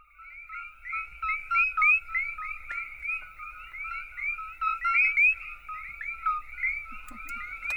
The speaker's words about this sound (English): When I look at it, I just see a little frog, a noisy little frog.